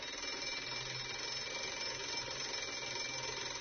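An electric school bell rings without pause for several seconds, a harsh, buzzing metallic clatter that stays steady and loud throughout, with no voices.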